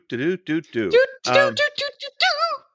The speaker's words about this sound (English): Do that little squeak you just did again. That was adorable. I didn't know I did a squeak.